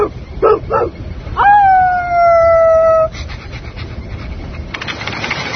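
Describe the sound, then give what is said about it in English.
A person imitates a dog, giving two quick yapping barks and then a long, loud howl that slowly sinks in pitch before breaking off into rustling background noise. “You're like some kind of crazy dog.”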